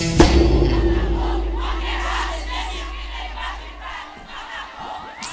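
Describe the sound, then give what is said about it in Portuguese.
A huge concert crowd in Salvador sings along in unison, a loud, dense wash of voices that holds steady for several seconds, with a low rumble underneath and occasional cheers rising out of the mass. “Tive vergonha, canta vocês, Salvador, canta!”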